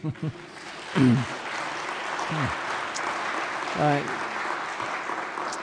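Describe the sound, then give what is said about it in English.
A church audience claps steadily for several seconds in celebration of news of a baptism, a dense, even patter of many hands, with a few scattered voices and short whoops rising briefly above the applause. “You can applaud.”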